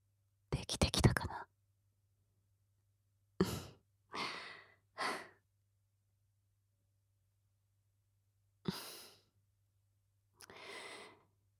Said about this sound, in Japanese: 息を吹きかけるだけじゃ足りないよね。吐息だけじゃなく、キスをしてあげないと。